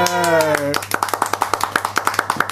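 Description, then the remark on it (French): A short burst of voice gives way to steady, rhythmic clapping, sharp claps in an even beat, fairly loud, from a live audience in the Landes at a public recording of Le Cochon à Plumes, clapping in unison. “Des vrais applaudissements landais.”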